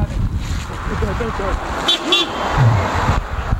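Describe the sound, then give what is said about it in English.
A car passes with a steady road rumble, and its horn gives two short, quick toots partway through. Voices murmur faintly in the background. “Wait, if a car's coming, watch out. Film the car.”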